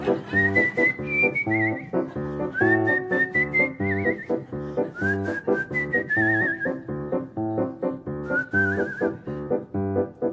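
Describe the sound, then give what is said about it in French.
A person whistles a bright, wavering melody in short phrases over a steady, rhythmic instrumental accompaniment, the whistle clear and prominent throughout. “Pendant que je somnole à jouer les rossignols, sifflotant mes refrains pour rien.”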